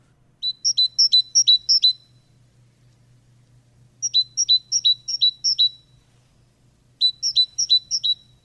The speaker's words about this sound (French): Alors, celui-là, on l'entend toute l'année. Un oiseau qu'on voit fréquemment, même l'hiver, dans les mangeoires, c'est la mésange charbonnière, avec son tititu caractéristique.